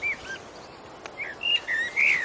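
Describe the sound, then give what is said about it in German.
A blackbird, a very common bird species, sings a run of clear, fluting whistled phrases with short pauses between them, moderately loud against a quiet outdoor background. “Das ist eine Amsel, eine sehr verbreitete Vogelart.”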